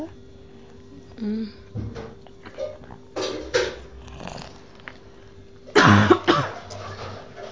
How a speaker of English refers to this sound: Hear me a cough? Mm-hmm. I have flu. I'm sick.